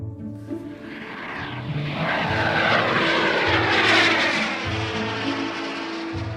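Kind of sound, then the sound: vehicle, airplane taking off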